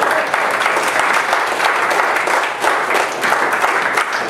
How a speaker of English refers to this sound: Give my dad a hand of applause.